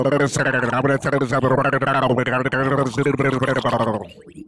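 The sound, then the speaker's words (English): A voice gargles continuously for about four seconds, a wet, warbling bubbling imitating someone doing a Sudoku underwater, fairly loud, then trails off abruptly. “That wasn't even gargling from my throat.”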